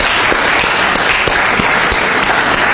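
An audience applauds together, a dense, steady wash of many hands clapping at once, loud and sustained with no voices over it for the whole stretch.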